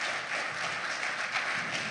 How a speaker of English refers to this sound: And so I'm really excited we get to kick off this new series with Pastor Dwayne Cross, our former lead pastor here. Yeah, you guys can applaud and cheer him.